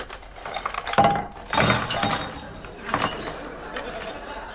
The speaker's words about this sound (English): Well, take the drawers out and empty them onto the table.